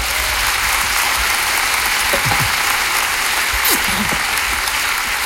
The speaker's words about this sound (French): il est dans la salle ce soir, on peut l'applaudir.